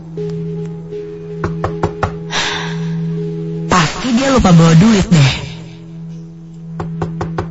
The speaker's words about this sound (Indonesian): tiba-tiba saja ku dengar seperti ada yang mengetuk pintu.